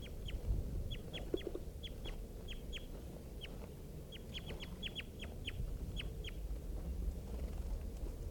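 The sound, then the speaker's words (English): A captured bird calls over and over in short, sharp, high-pitched chips, coming in uneven bursts and clusters above a steady low rumble, with no voices. “Started calling and just captured four birds and released all of them except the male.”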